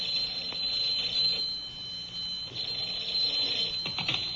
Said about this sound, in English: Oh, yes, there's Harriet. And just in time to answer the phone, too.